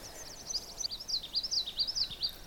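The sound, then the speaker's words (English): A common yellowthroat sings a rapid, high, repeating witchety-witchety phrase, its bright notes rolling in a steady rhythm for a couple of seconds over a soft background hiss. “That's the sound of the common yellowthroat.”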